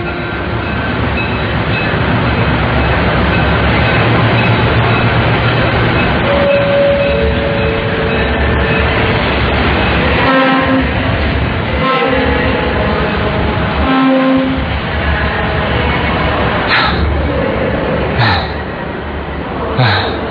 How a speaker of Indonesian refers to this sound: Untung aja sempat naik kereta yang ini.